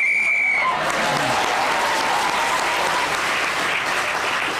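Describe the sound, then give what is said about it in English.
A single short whistle blast at the start ends a round of a panel game. Loud, sustained applause from an audience quickly swallows it and carries on to the end. “So Dara Bryan was again speaking as the whistle went, has moved forward.”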